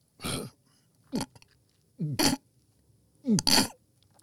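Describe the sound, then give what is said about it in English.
A voice imitates belching: four short, gravelly bursts spaced about a second apart, each with a croaky low tone and a noisy rasp, loud with no talking. “I'm talking a symphony of, first the belching.”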